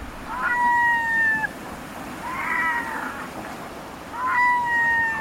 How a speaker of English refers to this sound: Loose groups of red-throated loons in flight, perhaps 1,000 altogether, stream past. The tide has turned at Deception Pass at the north end of Whidbey Island in Washington State.